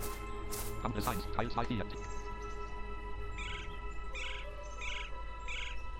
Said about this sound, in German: Hier ist der Handyvogel. Aber der scheint nur ein ambientes Sound zu sein. Oder?